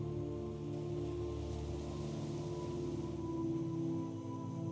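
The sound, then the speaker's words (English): A steady, rushing wash of waves breaking on rocks at a barrier in the water about 100 yards away that protects an island, holding an even loudness throughout, with a low sustained hum running underneath and no voices. “Listen to the waves as they break on the rocks.”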